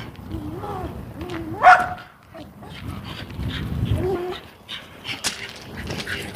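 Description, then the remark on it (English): Small dogs yap and whine excitedly at an oncoming person, with one sharp, loud yelp standing out early on and softer whimpering yips scattered through the rest, over rumbling outdoor background noise. “Oh, little dogs. I'm very excited by an oncoming person.”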